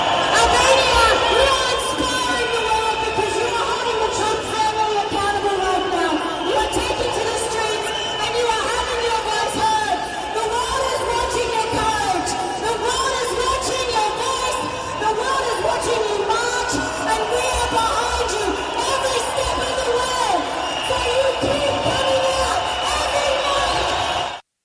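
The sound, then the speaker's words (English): A crowd of thousands of protesters in the streets, protesting a planned development and addressed by a speaker, fills the air with constant overlapping chatter and shouting, steady and loud throughout, with occasional cheers and whoops rising above the babble of many voices. “This unnamed speaker addressed a crowd of thousands in the streets today.”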